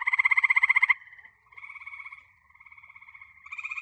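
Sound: frogs croaking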